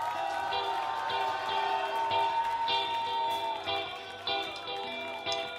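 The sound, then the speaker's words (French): A live concert audience applauds and cheers steadily throughout as the band's drummer is introduced, a dense wash of clapping and shouts with some sustained tones ringing underneath, fairly loud. “Un maximum d'applaudissements, s'il vous plaît.”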